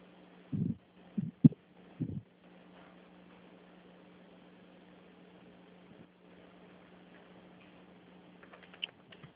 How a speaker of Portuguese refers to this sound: Peraí que eu já tô digitando aqui.